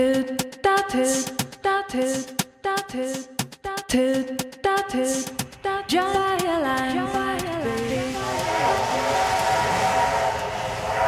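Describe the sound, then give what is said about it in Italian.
A steam train chugs in quick rhythmic bursts while its whistle sounds in short toots, then gives way to a long, wavering whistle blast over loud, steady rumbling. “Questo suono, gli ascoltatori sono abituati perché è dalla prima puntata, è un treno.”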